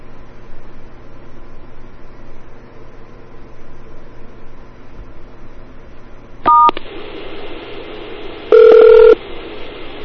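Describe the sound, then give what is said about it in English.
A steady hiss of a phone line during an automated extension menu call, recorded with a microphone held right against the phone, then a short keypad tone beeps near the end, followed by a longer, louder dial tone beep, both sharp. “I'm holding the mic right against the phone.”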